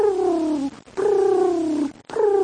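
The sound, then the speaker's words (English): A voice imitates a dove's cooing with three drawn-out, gently falling hoots in a steady rhythm, fairly loud, with short pauses between them and no other sounds. “You know, don't you love doves? You know, when they coo.”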